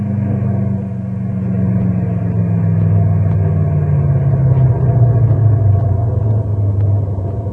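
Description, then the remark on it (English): A caravan of six large trucks rumbles steadily, a deep, continuous low engine drone with a slowly shifting pitch as they pass, loud and sustained with no one speaking. “Look at the size of those trucks, will you?”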